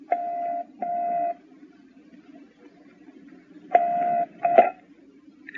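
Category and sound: signal or alarm, telephone being dialed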